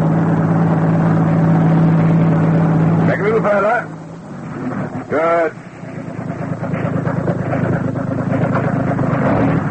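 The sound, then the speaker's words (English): A heavy truck engine idles loudly and steadily throughout, with a low droning hum, while voices briefly break in over the rumble partway through. “Attach it to the exhaust pipe of the truck.”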